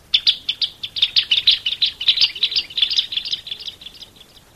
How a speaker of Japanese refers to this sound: ヘラちゅうのは口の中の舌のことだから、スズメは大層痛かったに違いない。かわいそうにスズメは泣きながらどこかへ飛んでいってしまったとさ。